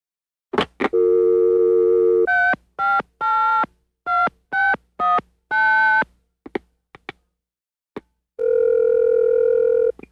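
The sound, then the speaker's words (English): A phone is picked up to a steady dial tone, then eleven quick dialing tones and a few clicks, ending in a long, steady, mid-pitched answering machine beep. No voices. “Please leave a message after you hear the beep.”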